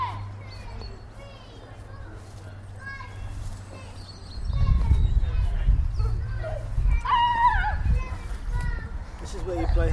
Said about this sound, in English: So see, there's some kids playing hide and seek. Yeah. They're counting. Yeah. They're going to hide.